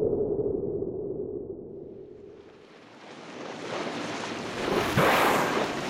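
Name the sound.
ocean waves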